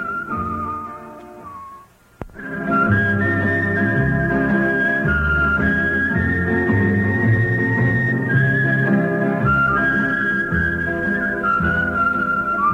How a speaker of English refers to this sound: A little whistling music now for the lunch hour.